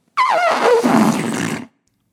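A single loud, fluffy fart lasting about a second and a half, its pitch sliding downward from a squeaky start into a low, breathy rumble, heard alone.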